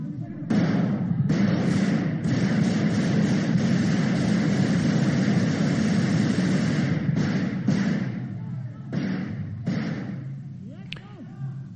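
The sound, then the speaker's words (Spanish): Loud bursts of gunfire fired at the ceiling of the Congress chamber, with Tejero on the tribune stairs, rapid shots running together in long volleys with short pauses between, echoing through the hall amid commotion and raised voices. “Luego llegaron los disparos al techo del Congreso.”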